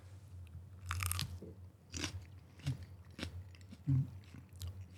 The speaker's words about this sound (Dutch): Ja. Dan nemen we nog een hapje.